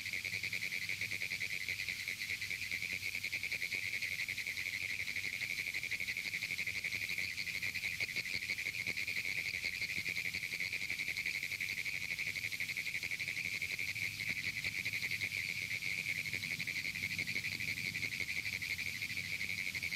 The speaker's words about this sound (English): The erratic call of the Pinewoods tree frog has been likened to Morse code.